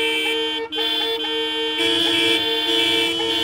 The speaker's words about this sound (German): Jedes Auto hat eine Hupe und die ist ziemlich laut. Aber wie lässt sich diese Hupe gezielt im Notfall in Gang setzen? Um das zu realisieren, müssen Behörden Zugriff haben, um die Autohupen zu aktivieren.